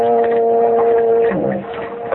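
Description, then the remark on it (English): A ship's foghorn sounds one long, steady, droning blast that holds for over a second, then sags in pitch and fades, with no talking over it. “No, you didn't. That was just a foghorn.”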